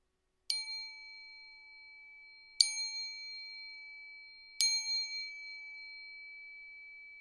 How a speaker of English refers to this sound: Let's allow the sound of the bowl chime to bring us into the present moment. The first chime to let go of the past. The second chime to let go of the future. And the third chime to bring us into the present moment.